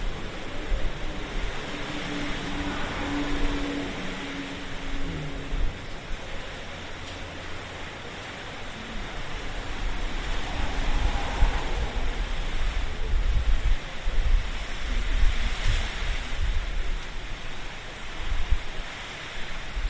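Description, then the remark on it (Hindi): A steady, loud roar of hurricane wind mixed with water churning and swirling round and round, with low rumbling gusts that swell and ease over about twenty seconds, and no voices. “तोड़ने दो ये हरिकेन आया गोल गोल घूम का पानी का।”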